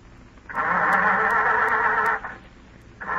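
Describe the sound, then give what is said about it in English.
A car engine cranks with a steady, grinding whir for under two seconds, cuts off briefly, then the whir starts up again, fairly loud with no voices. “Go ahead, start it.”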